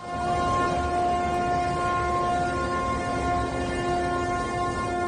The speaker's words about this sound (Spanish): Es la sirena de ese crucero en su intento de atracar en el puerto de Venecia. Pero atención, que estamos hablando de un barco de 65.000 toneladas, 54 metros de altura y más de 1.000 camarotes. Imagínate, es como un edificio de 15 pisos.